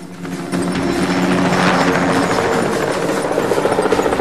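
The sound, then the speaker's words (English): A helicopter appears and swoops in close to the ground, roaring loud, its rotor thumping rhythmically as the sound swells and sweeps past low overhead, with no voices. “A helicopter appears and swoops in close to the ground.”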